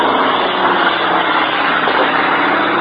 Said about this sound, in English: That's one of the Marine fighter planes just passed overhead. He's on his way back to his base to get a new supply of rockets. I notice he has rocket brackets on, but they are empty.